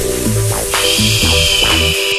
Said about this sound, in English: White Noise Sweep.